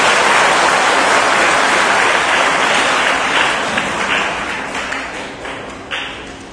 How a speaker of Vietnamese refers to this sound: Tất cả các bạn trẻ hãy dành một tràng vỗ tay thật lớn để tán dương tình trạng này.